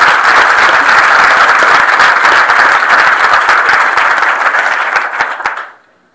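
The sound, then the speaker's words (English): An audience breaks into steady, dense applause for the four people appearing that day, many hands clapping loudly together for about five seconds before the sound tapers off and quickly dies away. “Please, round of applause for the four people today.”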